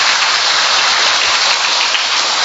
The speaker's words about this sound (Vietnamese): Người con trai sau khi đi nghĩa vụ về thì đã được làm công tác ở tại địa phương và hôm nay cưới vợ. Chúng ta một tràng pháo tay để chúng ta chúc mừng người hàng xóm thân thương.